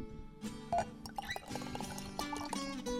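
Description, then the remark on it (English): A 2011 Zinfandel wine from Petroncelli, Sonoma County, being poured into a glass, a steady gurgling stream whose ringing tone rises as the glass fills, with no voices over it. “But in the meantime, we're going to pour a glass of this, and this is the 2011 Zinfandel from Petroncelli, and this is Sonoma County at its best.”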